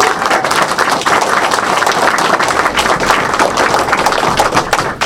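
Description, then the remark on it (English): A crowd breaks into sustained applause for Stuart Russell, a club management committee member, many hands clapping in a dense, steady roar that holds at an even, loud level for several seconds without any speech. “A big round of applause for Stuart Russell, please.”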